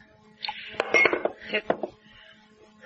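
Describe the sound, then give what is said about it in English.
A glass water pitcher from a table knocks and clinks against a drinking glass in a quick cluster of bright, ringing taps, with a faint scrape or pour between them, no voices heard. “It's just that I'm not used to drinking water from a glass.”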